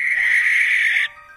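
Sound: screech owl call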